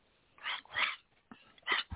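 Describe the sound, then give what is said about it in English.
A human voice gives a rough, raspy growl, repeating a growl performed in a song, in three short bursts, the second loudest, with brief pauses between them and no speech. “Go ahead and give that growl you gave in that song.”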